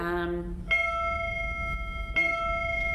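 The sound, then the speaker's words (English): A school bell rings out clearly in a classroom with two bright, sustained chime strikes about a second and a half apart, following a brief bit of voice at the start, over a low room hum. “Excuse the bell, everybody. We are socially distancing in a classroom”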